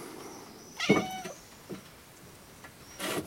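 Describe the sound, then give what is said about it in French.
A plump cat gives one clear, drawn-out meow that slides downward in pitch, followed by a short, softer chirp, with faint background hiss and no talking. “Tu es bien dodu, toi. Qu'est-ce que tu bouffes? Des oiseaux, des pigeons, des rats?”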